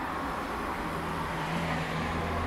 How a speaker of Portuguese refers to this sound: Vou deixar passar este carro, porque eu vivo numa avenida.